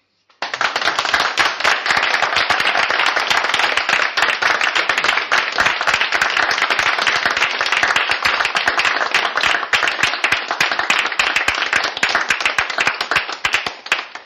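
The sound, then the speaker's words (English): A crowd applauds steadily for about fourteen seconds, applauding that many nations in Europe have risen to a higher level, dense overlapping claps forming a loud, even wash of sound with no voices heard. “Thank you for applauding the fact that so many nations in Europe have indeed risen to a higher level that allows me to anchor the flame of freedom on this continent that truly has seen so much anti-freedom that it almost defies comprehension.”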